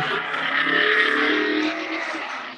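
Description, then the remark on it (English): A car rolls past on a city street in New York City, its engine and tire roar loud, holding steady before easing off slightly at the end. No one speaks. “Uh-oh, a car going across.”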